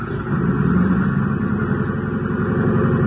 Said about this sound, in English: The passenger door was closed, and the big plane's engines were warming up for the trip to Dallas.